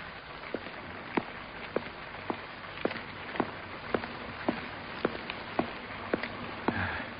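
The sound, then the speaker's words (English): A steady, muffled hiss of falling rain, scheduled for that time of the night by WeatherX, fills the background, with sharp drips landing at a fairly regular pace, roughly one or two each second. “Rain, scheduled for that time of the night by WeatherX.”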